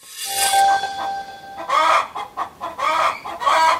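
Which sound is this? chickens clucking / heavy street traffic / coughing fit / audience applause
chickens clucking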